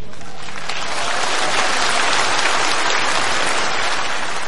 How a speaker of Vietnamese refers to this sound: Các Phật tử nghe pháp vỗ tay, có nghĩa là mình mừng dùng cho ông phải không nào?